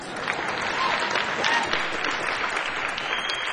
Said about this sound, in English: …, you can applaud.